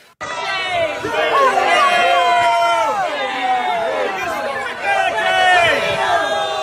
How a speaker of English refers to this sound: Both times the protesters booed her.